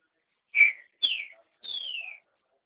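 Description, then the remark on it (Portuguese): Three clear bird chirps heard over a phone line, each a bright whistled note sliding downward, the last one longer and more drawn out, sounding alone against a quiet background with no voices. “Ai, só estou ouvindo os passarinhos, que lindo.”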